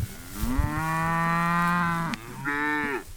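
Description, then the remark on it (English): A cow moos loudly on Blake Munger's cattle pasture in western Kentucky, one long drawn-out low bellow followed by a shorter second call, with no talking. “Most people would say Blake Munger is raising cattle out on his western Kentucky pasture, but he sees it a bit differently.”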